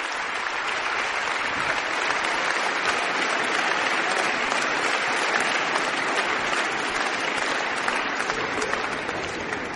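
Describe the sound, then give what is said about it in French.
Sustained, dense applause with scattered cheers from the concert audience at the Cité de la Musique, broadcast live on France Musique after a piano encore by Burgmüller, steady and loud throughout the whole stretch with no one speaking. “Une sorte de pirouette pianistique pour faire plaisir au public de la Cité de la Musique, dont vous entendez les acclamations en direct sur France Musique.”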